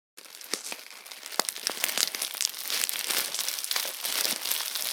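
Dry leaves rustle and crackle continuously, with sharp crinkly bursts scattered throughout and the texture building steadily louder over the span, no voices present.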